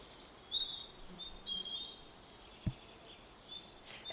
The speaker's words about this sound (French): Il y a des oiseaux qui chantent.